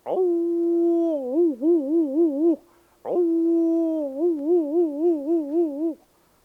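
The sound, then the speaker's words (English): Two long, loud howls from Lightning, a grandfather's dog, one after the other, each starting with a rising swell, holding steady, then breaking into a rhythmic wavering warble before cutting off. “And I remember every dog has its own voice, just like people do.”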